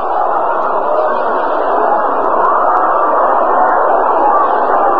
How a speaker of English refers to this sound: Kind of a groan comes up from the crowd here at County Stadium, for out on the scoreboard, those amazing Cincinnati Redlegs are at it again.